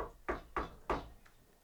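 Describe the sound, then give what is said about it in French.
Three firm knocks on the wooden door of a palace, evenly spaced, each with a short resonant thud, followed by a faint fourth tap trailing off. “Et effectivement, 3 semaines plus tard, le voilà qui toque à la porte du palais.”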